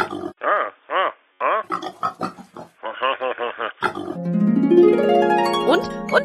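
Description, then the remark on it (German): A voice imitates a pig, playing Sparky Sparkus the one-eyed pig pirate, with a rapid series of snorting grunts and squeals for several seconds, then a long, loud, steadily rising tone takes over. “Arr, arr, Sparky Sparkus, der einäugige Schweinepirat wird es dir verraten.”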